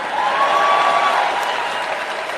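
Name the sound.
crowd cheering and applauding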